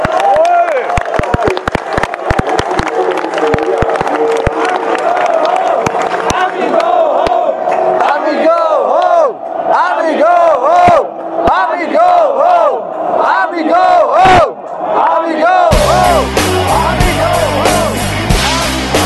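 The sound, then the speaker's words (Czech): A rally crowd of about a thousand people standing on a square cheers and chants loudly in response to a speech, many voices rising and falling in repeated shouted phrases, before the sound abruptly shifts to a steady, rhythmic musical texture for the final seconds. “Následuje v pořadí druhá řečnice s velkolepým projevem, který velmi elektrizoval tisícový dav stojící na náměstí.”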